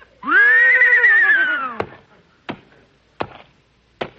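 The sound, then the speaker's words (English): A loud whinny from a trick horse that has been on television and in movies, long and wavering with a falling tail, followed by four sharp, evenly spaced hoof taps, as the horse is asked how much is 2 and 2. “Now, like I started to tell you, he's a very smart horse.”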